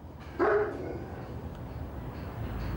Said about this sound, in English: we were surprised by the dogs. Noy's three Rottweiler dogs were loose in the grounds.